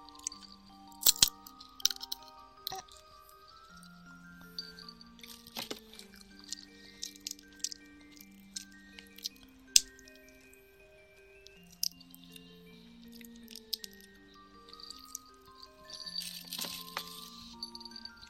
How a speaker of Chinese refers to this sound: 自己是掰不动的，我要咬一口。他咬个小口口，他咬个小口。